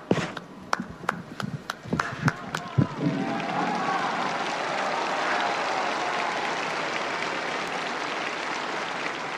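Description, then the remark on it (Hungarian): Pilgrims break into applause to thank Pope Francis for his blessing and teaching, first a few sharp separate claps, then swelling into a steady, dense wash of clapping from many hands that carries on to the end. “Szokásukhoz híven a mai napon is a zarándokok tapssal köszönik meg Ferenc pápa áldását, az ő tanítását.”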